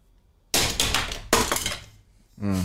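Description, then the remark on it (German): A hard stone die is thrown onto a computer mouse: two loud, sharp clattering knocks about a second apart, each ringing briefly, before a voice starts up at the end. “Ich hab den auf meine Computermaus geschmissen.”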